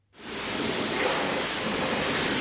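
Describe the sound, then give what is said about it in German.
A steady, loud rush of spraying water starts abruptly and holds constant, a dense hiss like high-pressure jets, with no voices, at a car wash in Schlieren, west of Zurich, Switzerland, on a weekday morning where cars, vans and off-road vehicles are washed. “Werktagmorgen in einer Autowaschanlage in Schlieren westlich von Zürich.”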